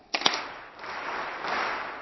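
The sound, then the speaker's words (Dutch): Two sharp claps ring out after a count of 1, 2, 3, then a broad, steady wash of many hands as an audience, invited to join in, claps along together, filling the rest of the moment at moderate volume, with no talking over it. “Weet je, we nodigen iedereen gewoon uit om mee te klappen.”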